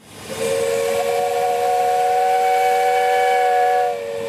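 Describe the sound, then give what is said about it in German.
A historic steam boat, five to seven metres long with a wooden hull and polished brass-copper boiler, in a parade of seven steam boats on the Fino canal, blows its whistle: one long, steady, loud note for nearly four seconds over a breathy hiss of steam, then cuts off. No one speaks. “Fünf bis sieben Meter lang, die Rümpfe ganz aus Holz und mit blank polierten Messingkupferkesseln tuckern die Dampfboote heute über das Wasser des Fino-Kanals.”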